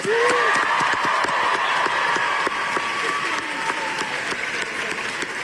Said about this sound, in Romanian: Luni, Thunberg a primit un premiu al organizației Amnesty International la Universitatea George Washington din capitala Statelor Unite, unde a fost întâmpinată cu ovații de studenți.